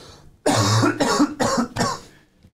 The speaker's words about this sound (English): Sorry, I've just got a cough.